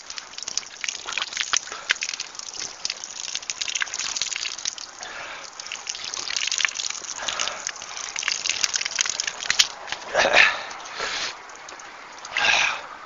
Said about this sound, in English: Ooh, that's cold water. Wow.